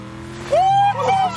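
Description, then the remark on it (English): A car engine rumbles, then surges into a loud, rising whine as the vehicle accelerates away over a low, steady drone. “Get the fuck in the car. Let's go. Let's ride.”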